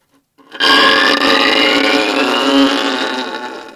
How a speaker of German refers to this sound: Also ich meine, wenn ich so einen Klang mache, dann kommen nicht viele drauf, dass das die Geige war, nicht wahr? Also kann ich damit überraschen, das macht mir Spaß.